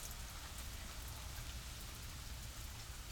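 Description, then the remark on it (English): Steady rain falls continuously, a dense, even hiss of drops spread across the whole clip with a soft low rumble beneath, moderately quiet and unbroken, with no voices. “It's nice, relaxing, just the sound of rain falling.”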